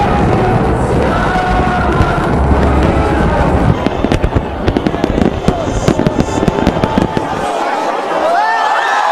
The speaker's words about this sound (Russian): В этот раз на знаменитом пляже Копакабана собралось около 2 миллионов человек. Для них небо озарил праздничный фейерверк. Он, кстати, считается крупнейшим в Латинской Америке.